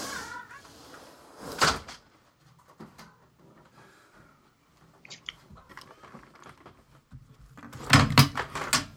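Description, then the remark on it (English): A door latch clicks sharply and an office door opens to let a cat in, followed by quiet shuffling and small taps, then a louder cluster of clunks and rattles toward the end. “my cat is unfortunately scratching at my door, driving me crazy while I'm listening to you.”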